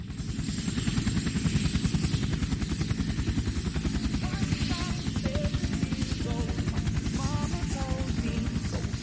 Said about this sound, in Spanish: se escapa a volar. Pero no a volar de cualquier manera, sino en un helicóptero Bell 47 construido el mismo año en el que él nació, en 1948.